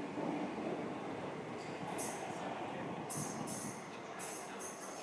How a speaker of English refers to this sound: I'm expecting this train to be absolutely rammed. And because I missed the train that I wanted to get, I now won't have a reserved seat on the one to Worcester either.